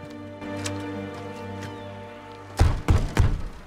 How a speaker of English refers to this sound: The squat Sontaran bangs on the TARDIS door.